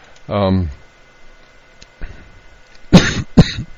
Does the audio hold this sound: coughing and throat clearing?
yes